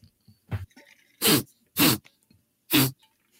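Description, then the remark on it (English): A few quick, hard sniffs through a congested nose, smelling a crime scene in a woodcarver shop, three loud ones in an uneven rhythm with fainter snuffles between them, with no talking. “Sniff this one out for us.”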